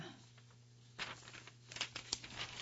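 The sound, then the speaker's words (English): Quiet paper rustling: a page is handled and turned to the milestones section, with a few crisp crinkling bursts over a steady low hum and no talking. “Okay, turning the page to milestones, I'll read the long articles first.”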